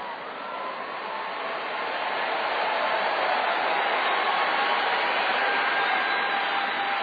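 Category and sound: crowd, audience clapping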